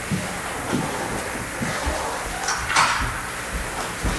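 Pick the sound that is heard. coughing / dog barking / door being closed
door being closed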